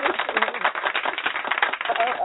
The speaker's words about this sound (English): Finally, round of applause. I mean, don't fake on me. Did you like it?